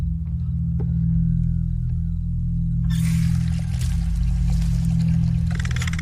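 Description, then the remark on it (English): A steady low hum fills the background, then about halfway through a woman pours herself a glass of water in a kitchen, a continuous bright splashing trickle that runs to the end. “She treads down the stairs into the kitchen and goes to pour herself a glass of water.”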